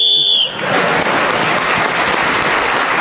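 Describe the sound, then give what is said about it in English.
A single shrill whistle blast, blown to end a round, sounds for about half a second, then is immediately swallowed by loud, sustained applause from an audience. “So Clement Freud speaking as the whistle went”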